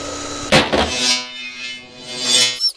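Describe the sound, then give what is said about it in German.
A hair dryer, fetched to restore a poodle's groomed look, blows steadily for a couple of seconds, a whooshing airflow over a humming motor whine, starting with a short clatter and cutting off abruptly at the end. “Warte, ich hole noch deinen Föhn, um deinen Pudellook wiederherzustellen.”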